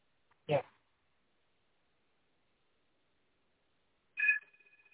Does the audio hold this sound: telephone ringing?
yes